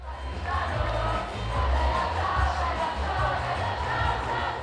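A protest crowd of 100,000 marching and chanting through the streets of Milan, Italy, protesting Israel's interception, a dense, steady roar of many voices with rising shouts over a low rumble that stays loud for the whole stretch.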